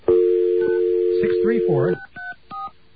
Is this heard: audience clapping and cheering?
no